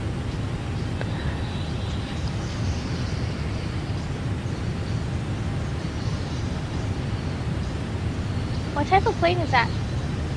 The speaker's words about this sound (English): What type of plane is that? It's a regional jet. It's, you know, it goes like short hops.